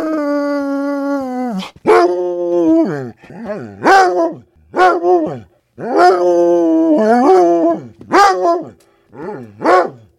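A dog named Ginger howls and moans in a string of loud, drawn-out wails, each sliding up and down in pitch, separated by brief pauses and short yelping catches.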